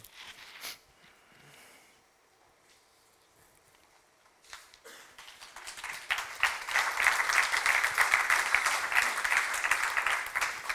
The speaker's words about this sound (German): Ich bin froh, dass ich nichts sagen musste wegen dem Applaus. Schöne Geste, danke euch vielmals.